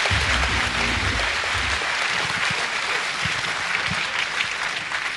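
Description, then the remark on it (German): Sustained audience applause for a quiz contestant receiving a consolation prize at the end of a round, a dense, steady wash of clapping from a sizable crowd with a faint low rumble early on and no one speaking over it. “Einen kräftigen Applaus.”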